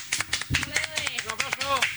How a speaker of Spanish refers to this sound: ¡Un aplauso!